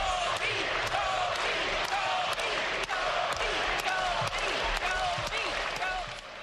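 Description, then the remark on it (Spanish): A basketball bounces steadily on a hard court with sharp, regular thuds while play is stopped at an NBA game between Dallas and the Suns in Dallas, and a large arena crowd chants and shouts loudly and continuously all around. “botando la pelota, parado el partido, mientras la gente gritaba esto.”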